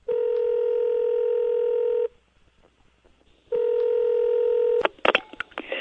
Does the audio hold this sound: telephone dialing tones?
yes